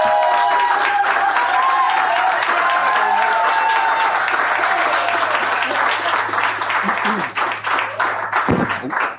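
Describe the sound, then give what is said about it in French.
A festival crowd at the 40th Festival de chansons de Tadoussac breaks into sustained, loud applause, dense clapping filling the full length with a few cheers and whistles rising above it, tapering slightly at the end. “Main d'applaudissement, s'il vous plaît.”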